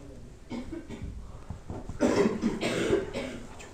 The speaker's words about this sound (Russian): Кашель прошелся по всей аудитории.